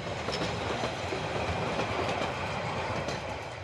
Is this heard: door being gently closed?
no